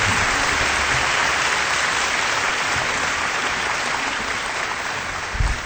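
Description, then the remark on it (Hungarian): Sustained audience applause fills the whole stretch, a dense, steady wash of many hands clapping at an even loudness, tapering only slightly toward the end. “Kedves népem, akkor a tapsot tört ki akkor, amikor ezt mondta az én digitális ottmesterem.”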